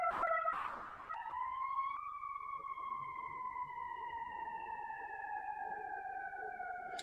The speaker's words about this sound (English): And so I recognize that even as perhaps there is a siren in my background because of where I'm located.